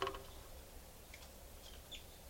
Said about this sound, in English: This is bird 425. That was 395. That's 425 there. 395 and 425 both calling.